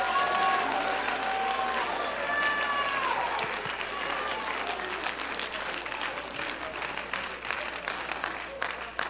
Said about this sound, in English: You ought to clap your hands. You ought to shout. You ought to speak it out. You ought to declare it.